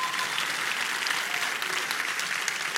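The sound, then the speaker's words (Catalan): A crowd applauds steadily at the opening gala of the Sitges film festival, a dense wash of many hands clapping at an even, sustained level throughout, with no voices standing out above it. “Un aplaudiment, home.”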